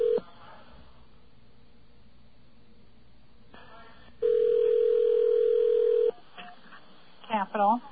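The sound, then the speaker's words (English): Over a phone line, a call to the United States Capital in Washington, D.C.: a brief dial tone is followed by a single steady, mid-pitched ringing tone lasting about two seconds, then a voice briefly answers. “It's ringing.”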